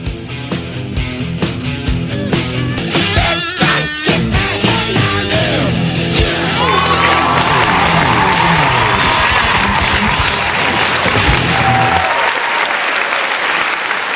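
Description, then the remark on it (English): A loud, sustained round of applause from a crowd at the start of the 2A Radio show, continuous dense clapping that holds steady for about twelve seconds before cutting away abruptly. “Thank you for that round of applause.”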